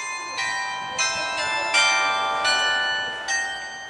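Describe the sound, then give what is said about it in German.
Carillon bells ring out in a bright, overlapping sequence, with new strikes arriving roughly every half second to second and their tones lingering and ringing together. “Das Glockenspiel hören Sie um 9, 12, 15 und 18 Uhr.”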